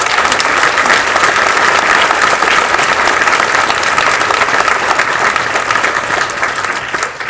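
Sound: audience applause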